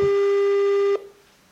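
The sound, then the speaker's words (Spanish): A steady electronic ringing tone of an outgoing WhatsApp video call holds for about a second at a single pitch with bright harmonics, then cuts off abruptly, leaving faint background quiet. “Videollamada para José Vázquez.”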